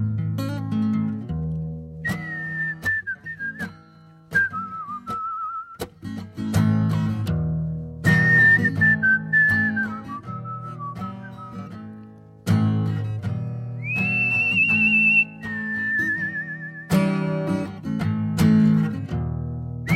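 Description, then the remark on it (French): A whistled melody closing a song floats above a full band accompaniment, moving through long sustained notes with gentle vibrato in several phrases. It's clear and prominent, and no one speaks. “qui sifflait, c'est une de ses spécialités, pour clore sa chanson”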